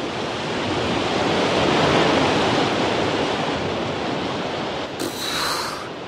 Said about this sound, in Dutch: Nog langs een grote waterval. Daar kan ik wel eens een natte broek aan overhouden.